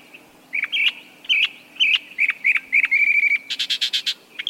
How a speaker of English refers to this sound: Now compare it to the mockingbird's attempt at copying it. Tree frog? Mockingbird. So, how does this mimicry benefit the bird?